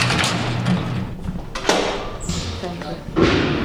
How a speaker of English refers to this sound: I have to get through 11 locked doors and sally ports just to interview him. We are in the security housing unit.